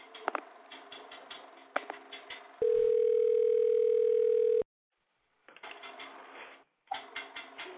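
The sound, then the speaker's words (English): A loud, steady telephone dial tone of an outgoing call placed from a radio show hums for about two seconds, preceded by a patter of clicks and taps, then cuts to silence before more clicking resumes. “can you please get Corey on the phone for me, baby?”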